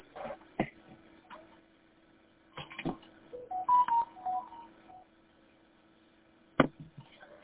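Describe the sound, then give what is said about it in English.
A keypad tone over a phone line, like the pound key being pressed: a short run of clean electronic beeps stepping between pitches, framed by a few sharp clicks and a low steady hum, with no talking. “And I think what I ended up doing is I hit pound.”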